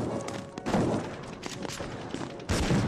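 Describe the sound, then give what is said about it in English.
A volley of gunshots fires in irregular bursts around Dublin Castle as rebels attack it, sharp cracks mixed with dull thuds over a constant rumbling background, with a loud cluster of shots near the end. “When Sir Matthew heard the sound of gunshots, he helped to close the gates to secure Dublin Castle.”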